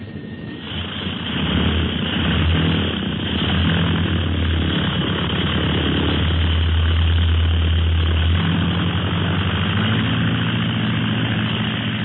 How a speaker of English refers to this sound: What a beautiful takeoff. The plane is like a bird.